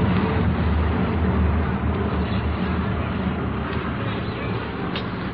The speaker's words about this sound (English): Four, eight, 12, 16. 16 military planes in a very tight formation buzzing up ahead here.